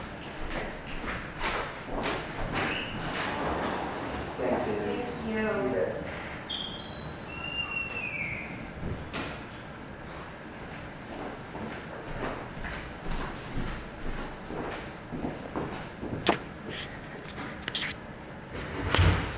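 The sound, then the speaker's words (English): Footsteps tap as a person heads out, then a door thuds shut and the lock clicks into place after them, with a few squeaky sounds and faint background murmur around the knocks and bumps. “Excuse me, I'm headed out. You want to lock the door after me? Yes, I will.”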